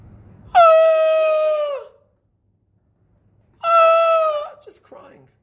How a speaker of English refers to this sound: And we're trying to replace a human voice with a simple, primordial shriek of an animal. You know what effect we're looking for a shofar?